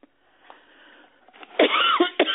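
A person coughs, a short run of harsh, loud bursts following a quieter breathy lead-in, with no talking.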